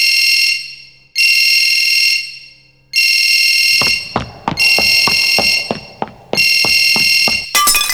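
A telephone rings with a shrill, buzzy electronic tone in repeated bursts about a second long, and sharp clicking and tapping noises join in during the second half.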